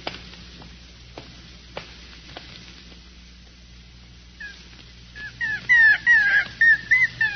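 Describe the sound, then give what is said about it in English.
A small dog, a puppy aboard a ship, whines and yelps in a quick series of short, high, falling cries near the end, after a quiet stretch with a few faint clicks and background hum. “But he's my dog.”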